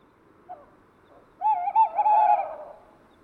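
A male tawny owl in a tree, preening its plumage, hoots insistently: a soft brief note, a pause, then a long, tremulous, wavering hoot that rises and fades, heard clearly with no voices.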